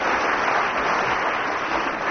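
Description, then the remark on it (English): A steady burst of audience applause for the winning contestant of a game, many hands clapping in a dense, even wash of sound with no voices breaking through. “Round of applause for Willie Ruskin.”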